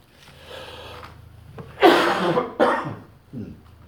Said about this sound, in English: Again, I apologize for the coughing. It's been going on a bit.